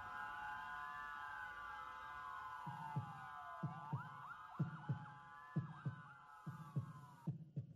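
Steady heartbeat thumps enter partway through, pulsing in a regular double rhythm beneath a sustained tonal drone that slowly bends in pitch, with no talking.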